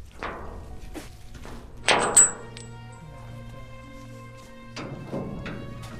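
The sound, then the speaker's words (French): A large, slightly rusty metal entrance gate at a farm swings shut with a series of clanks and thuds, the loudest ringing briefly with a high metallic tone, followed by a low steady hum and two softer knocks. “Une grande grille un petit peu rouillée. Je vais en profiter pour la fermer, parce que le vent l'a ouverte, mais...”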